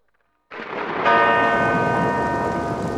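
A loud church bell tolls once, its deep metallic ring sustaining and slowly fading over a dense, rumbling wash of rain and thunder, with no voices.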